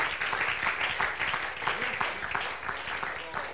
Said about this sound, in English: Would you clap your hands unto the Lord and bless his holy name?